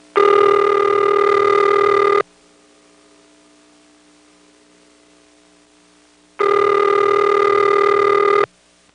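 A telephone line ringing back over the earpiece after a working number is dialed: two steady buzzing rings, each about two seconds long, separated by a long pause with only a faint line hum in between.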